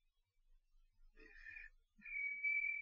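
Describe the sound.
A voice from behind the listeners answers by mimicking cricket chirps in two faint, high-pitched bursts, the first fluttering and broken, the second a steadier sustained trill, with near silence between them.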